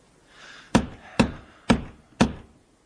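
Four firm knocks on the oak door of Maguire's house on Half Moon Street, evenly spaced at a steady rhythm, fairly loud with a dull, hollow thud and no voices.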